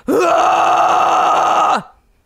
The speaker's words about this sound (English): There's the scream sound. Okay, right. That was really good.